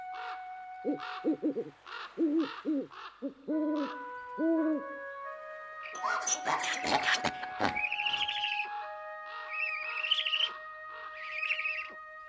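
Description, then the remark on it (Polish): A series of short, breathy owl hoots in quick succession, followed by harsher, raspier calls and shrill whistling notes over a faint steady tone. No one speaks. “to były poniekąd sowy, to był kruk.”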